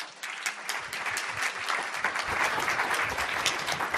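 A crowd breaks into sustained applause, dense overlapping clapping that starts abruptly and holds steady at a fairly loud, even level throughout, with no voices on top.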